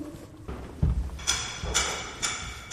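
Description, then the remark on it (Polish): Hammers knock in an irregular series of sharp, ringing strikes during conservation work inside a church dedicated to Saint John of Nepomuk, about five or six blows with a slightly metallic edge, heard over a low background hum with no talking. “Wewnątrz w tej chwili trwają prace konserwatorskie. Słyszymy tutaj odgłosy młotków.”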